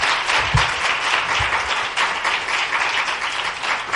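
A church audience claps in praise to the Lord, a dense, steady wash of many hands applauding together for the whole stretch, loud and sustained without pauses or voices.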